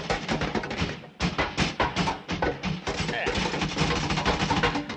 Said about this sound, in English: Now, when I start rattling the door, you start banging away at the bulkhead.